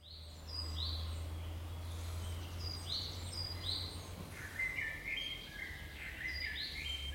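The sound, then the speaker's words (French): Small birds in a countryside garden chirp and whistle in short repeated phrases over a steady low hum and soft outdoor ambience, several calls overlapping, no voices present. “La campagne, l'air de la campagne, le jardin, les petits oiseaux.”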